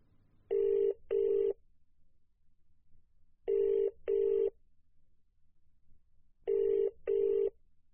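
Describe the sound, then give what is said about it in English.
A telephone rings at Sarastro, where dinner reservations are taken, in three double bursts, each pair of short trilling rings followed by a pause, steady and moderately loud, with no voices present. “Thank you for calling Sarastro. How can I help you?”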